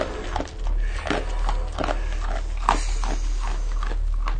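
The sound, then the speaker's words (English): Wet chewing and smacking of a 9-month-old bear cub eating apple bits and dog kibble out of a man's hand as he sits in straw, a steady run of soft crunches and slurps over a low rumbling background, with no one talking. “is the sound of the bear cub eating out of his hand.”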